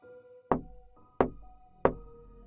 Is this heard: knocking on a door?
yes